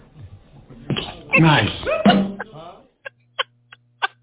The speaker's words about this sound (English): Nice. I love the quack, quack at the end. Quack, quack.